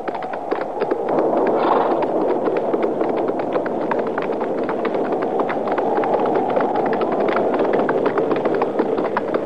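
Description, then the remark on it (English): Horses' hooves clip-clop in a steady, uneven rhythm as riders head for a shack to take cover for the night, under a constant rushing noise of strong wind, moderately loud throughout with no one speaking. “Well, there ain't even no shed there for the horses. Now let's ride around to that side, out of the wind.”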